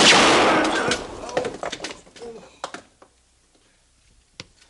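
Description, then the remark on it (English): A loud gunshot that hits the gun in a man's hand cracks out and its broad, rumbling blast fades over a couple of seconds. Scattered clicks and small knocks follow, with one more sharp snap near the end. “I hit the gun.”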